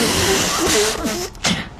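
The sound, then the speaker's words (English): A single sneeze: a quick intake, a brief hush, then a sharp breathy burst of air, fairly loud against a hissy background. “Bless you.”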